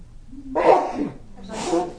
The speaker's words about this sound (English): I'm going to sneeze again.